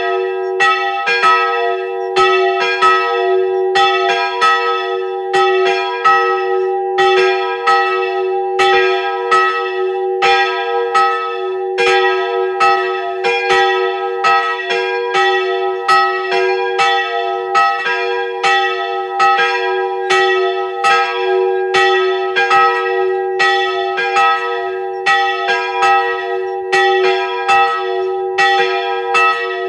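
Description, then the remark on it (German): The bells of the pilgrimage church in Hilkering, Upper Austria, ring at noon, continuously and loudly, several bells overlapping in a steady, rapid peal with a sustained humming resonance beneath the strikes, and no voices. “Es ist 12 Uhr. Sie hören die Glocken der Wallfahrtskirche Hilkering in Oberösterreich.”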